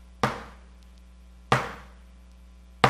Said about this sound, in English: The galley slave would paddle when the captain up here, here's the captain, who had this little hammer, and the captain would go like this.